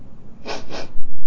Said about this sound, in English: Sniffle and sneeze. You can't do it, can you?